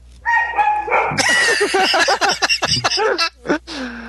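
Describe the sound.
A dog barks and yips in a quick, excited series of sharp bursts, with some higher whiny tones at the start and a person's voice mixed in underneath.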